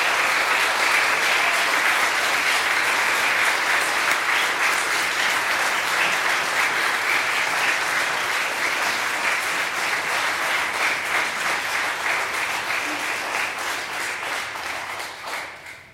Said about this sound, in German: Jetzt möchte ich Sie bitten, einen Applaus für den Chor, die Chöre und den Chorleiter.